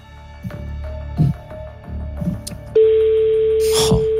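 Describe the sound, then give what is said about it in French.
Electronic telephone tones as a phone call is placed: a thin steady beep with a few soft knocks, then a louder, buzzier sustained line tone that holds to the end, clear with no one talking. “Allez, faites-moi sonner le téléphone, s'il vous plaît.”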